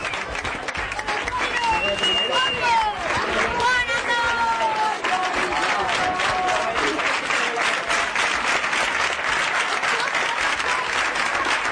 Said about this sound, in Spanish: Esto es más de un minuto de aplausos a través de los pasillos que conducen a la salida de un colegio. A los lados, por los pasillos, los alumnos, los profesores y algunos padres también.